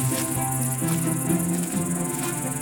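A grasshopper stridulates steadily, a thin, high crackling buzz that runs unbroken and fairly faint, with a low hum droning underneath and no voices.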